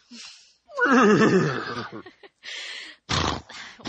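A horse lets out a loud, quavering whinny that trembles and falls in pitch, followed by a few short, breathy snorts and blowing noises.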